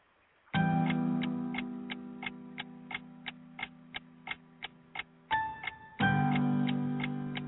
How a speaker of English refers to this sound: It's like, that clock stays ticking. Time don't wait for no man.